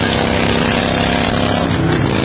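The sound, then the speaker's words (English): A motorcycle engine roars steadily and loudly, a dense, continuous rumble with a slight rise in pitch near the end, with wind noise and no voices. “And this is what that same commercial sounds like on your motorcycle.”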